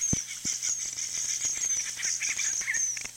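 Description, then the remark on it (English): Newborn estrildid finch chicks begging their parents for food with mouths wide open: a continuous, high-pitched wheezy chorus of overlapping thin calls and chirps, with a few soft thumps underneath and no talking. “Newborn finches beg their parents for food, mouths wide open.”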